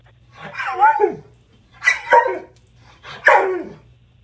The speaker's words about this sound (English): Eric's going to play a sound of a dog, and then you have to guess what that dog's talking about